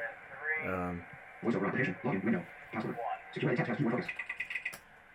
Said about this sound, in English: That was me punching in my password.